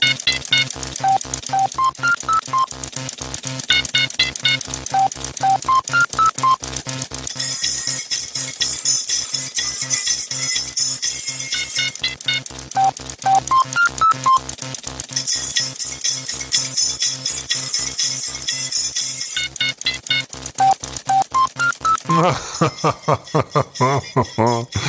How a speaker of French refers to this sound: Alors là, il y a un Commodore 64 pour la guitare et la basse, un modem Intel, deux TI-99, dont un pour la synthèse vocale, un disque dur et une imprimante pour les drums.